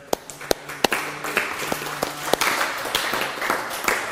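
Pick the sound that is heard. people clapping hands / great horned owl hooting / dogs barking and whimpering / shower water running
people clapping hands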